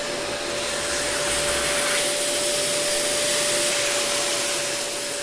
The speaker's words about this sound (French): Je mets en marche. Là, c'est l'aspirateur que j'ai mis en marche. Ça aspire. Et là, j'appuie ce bouton-là et ça fait la vapeur.